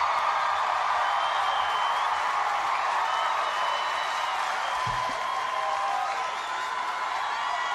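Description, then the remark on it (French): A large crowd applauds and cheers steadily, a dense wash of clapping with scattered whoops, at the opening of a live concert recording. “C'est cool les applaudissements au début, mais bon, voilà, on est obligé.”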